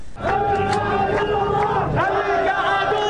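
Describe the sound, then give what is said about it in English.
A crowd of hundreds in Baghdad shouts anti-American slogans in a loud, sustained roar, many voices rising and falling as one, continuous throughout, ending in English with "No, no, Bush." “hundreds shouting anti-American slogans, ending in English with "No, no, Bush."”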